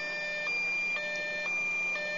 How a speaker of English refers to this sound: Lady, do you hear this alarm?